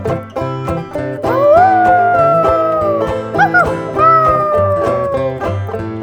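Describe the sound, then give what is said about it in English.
A voice imitates a puppy's howl, one long wavering cry that rises, dips and trails off over a steady musical backing with a regular beat. “Till like a pup I howl.”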